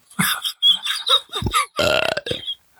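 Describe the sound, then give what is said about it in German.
A long, loud burp from a person chewing ice cubes, with a croaking, rattling quality, broken into several gurgling pulses over about two and a half seconds, with no talking around it. “Ja, nee, jedes Mal, wenn du Eiswürfel kaufst, rülpst du jetzt.”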